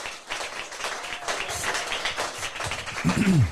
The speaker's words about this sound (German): Ja, Applaus für euch beide.